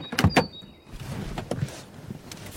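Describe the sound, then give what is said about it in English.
A car door thuds shut with a quick double clunk, followed by softer rustling and a fainter knock as things settle inside the vehicle. “I've got the door.”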